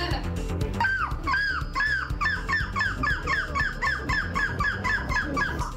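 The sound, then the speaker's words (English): At a contest in Belgium for the best seagull impression, a woman's voice imitates a seagull with a rapid, evenly paced run of about a dozen high, squealing cries over a low, steady background rumble. “A contest in Belgium deciding who has the best seagull impression.”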